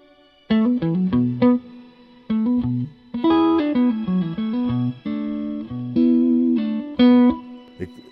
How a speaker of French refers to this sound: Là on a shimmer, donc comme tu disais tout à l'heure, ce qui rajoute une octave, enfin un octave sur le reverb.